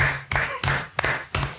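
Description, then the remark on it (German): A few sharp hand claps, about four or five, spaced unevenly over a steady low background hum, each one a crisp, loud smack. “Das ist ja mal Applaus wert, Alter.”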